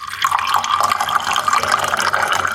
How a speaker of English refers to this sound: or water pouring